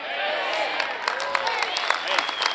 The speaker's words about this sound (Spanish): Dale más fuerte ese aplauso, por favor.